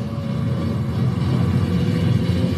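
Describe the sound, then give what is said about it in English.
A steady, loud low rumble of tyre and road noise from an electric car travelling at speed on the twisty Nürburgring circuit, continuous and even throughout, with no voices. “Makes quite a lot of noise for an electric car. Some road noise.”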